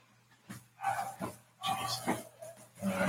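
A female dog barks in several rough, growly bursts, about four in quick succession, over a faint steady hum in the background.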